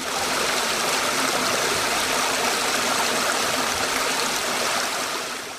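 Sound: flowing stream water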